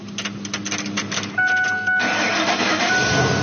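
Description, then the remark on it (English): A car engine running on pure hydrogen from a water electrolysis system, developed in Buffalo, New York, starting: a starter cranks in quick rhythmic pulses, a thin high whine rises over it, then the engine catches and settles into a steady, loud running roar. “I'm just gonna start it.”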